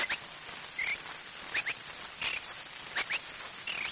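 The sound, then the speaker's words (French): A voice imitates a warbler's song with quick bursts of bright, twittering chirps and short trills, repeated several times, with no talking. “La fauvette fredonne.”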